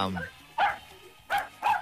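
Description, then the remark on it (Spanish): A dog barks three times in quick, uneven succession in the background of a caller's phone line during a radio call-in show, the caller being from Los Angeles. It sounds thin, as if heard through a phone line, with a brief murmur of voice at the start. “Ah, yo pensaba que me estaba llamando un perrito. Oye, el perro choro atrás.”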